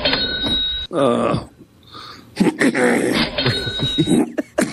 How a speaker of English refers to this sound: I'm working on this trademark cough. What do you think?